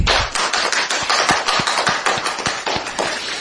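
A crowd claps in a steady burst of applause lasting a few seconds, dense and fairly loud, with individual sharp claps standing out from the continuous rattle of many hands.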